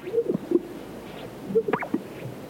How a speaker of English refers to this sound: The eerie call of the greater sage grouse and the howls of a coyote echo across the arid sagebrush of California's Great Basin.